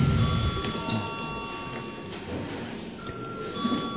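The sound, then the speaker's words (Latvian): A parliament chamber bell rings steadily for several seconds before a vote on the 2011 state budget bill, as a sustained, high electronic tone, with a low murmur of voices and shuffling underneath. “Lūdzu zvanu.”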